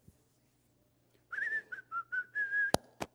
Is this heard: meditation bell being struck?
no